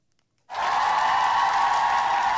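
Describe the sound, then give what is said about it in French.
A crowd bursts into applause after a rap performance, following a brief silence, a dense, steady wash of many hands clapping that stays loud and even without fading. “Je lasse les applaudissements.”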